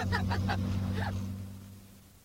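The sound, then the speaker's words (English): A car engine hums steadily at a low, even pitch as the car drives along at nearly 40, with a few brief higher sounds near the start, then gradually grows quieter toward the end. “Dad was showing off the car.”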